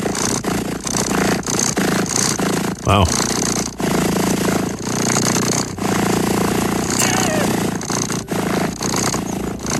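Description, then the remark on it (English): A recording of a cat purring loudly and steadily, its rumbling pulses rising and falling with each breath. A person briefly speaks partway through. “The whole website, nothing but cat purring sounds.”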